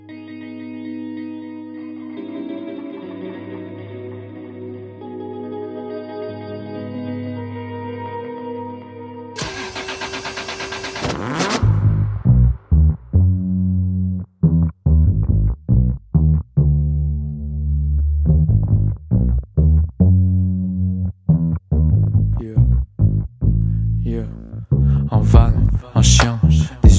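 Opening track of a mixtape: sustained synth chords, then a sudden roaring burst like an engine revving, dropping into a loud, choppy beat with heavy bass pulses and no vocals.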